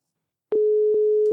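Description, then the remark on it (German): A steady telephone busy signal, a single mid-pitched electronic tone, starts abruptly after a brief silence and holds on, with soft clicks recurring at regular intervals, as a call to a quiz game's phone-a-friend contact finds the line busy. It is clear and fairly loud, with no voices. “Es ist leider gerade besetzt.”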